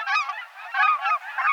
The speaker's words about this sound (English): They breed in far northern Canada and western Alaska and winter along both coasts and in the southern Great Plains. Look and listen for pint-sized cackling geese this fall at refuges, in farm fields, and at other spots where migratory geese gather.